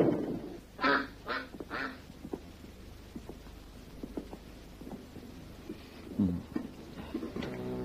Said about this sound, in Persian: این اردک موجود شگفت انگیزیه قربان.